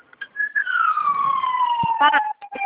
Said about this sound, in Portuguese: Nossa, tá passando uma ambulância, não tô escutando nada.